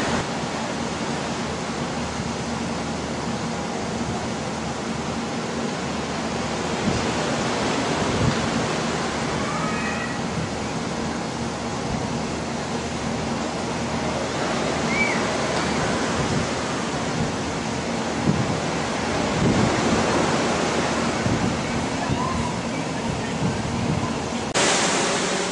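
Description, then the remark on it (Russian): Real sea surf rushing onto the shore along a beach by a complex of buildings, in a steady, broad roar, with several louder swells as waves break. No voices, just continuous washing noise. “Вы слышите прибой, это вот настоящий прибой, невыдуманный. И звук не наложен, вот прям так здесь шумит прибой.”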